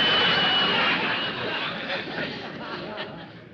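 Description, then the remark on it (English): A steam kettle boiling water for milk hisses loudly and steadily, with a thin high whistle riding on the rush at first, the noise easing slightly over a few seconds. “The steam kettle's making too much noise.”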